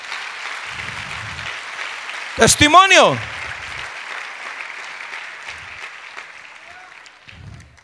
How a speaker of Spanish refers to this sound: Le un aplauso al Padre, aleluya.